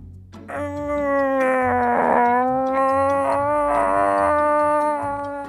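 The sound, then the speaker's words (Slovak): A secret door hidden in a wall, opened by pressing a small button, creaks open in one long, drawn-out groan lasting several seconds, a steady, fairly loud tone that wavers and swells slightly in pitch before fading at the end. “A s veľkým vrzgotom sa otvorili.”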